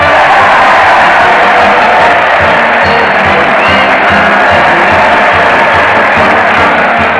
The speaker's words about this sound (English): Just listen to that crowd cheer Fred Allen as he leads his weekly parade to the old Town Hall.